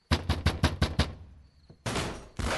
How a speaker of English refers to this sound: My key unlocked the front door, but it was locked from the inside, so I beat on the door until it crashed.